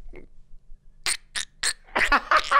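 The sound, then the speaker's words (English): Someone imitates the cartoon character Donald Duck's voice: three short, raspy, squawking bursts, followed by a longer garbled run of buzzy, quacking sounds. “He used to be able to do the Donald Duck noise.”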